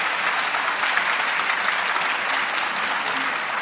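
An audience applauds steadily for fantasy author Markus Heitz, ahead of a presentation of his novel Die Klinge des Schicksals: a dense wash of many hands clapping at an even, sustained loudness throughout, with no voices standing out above it.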